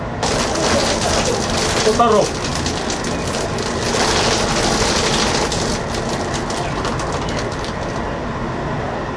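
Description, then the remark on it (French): A chicken-skinning machine, a kind of pulley with hooks, runs at a market with a steady, loud mechanical clatter and rushing whir as it strips the skin off chickens, dense rattling throughout, with a brief squeaky chirp partway through. “Et là, le son qu'on entend, en fait, c'est une manière d'éplucher le poulet, de lui enlever toute sa peau, quoi.”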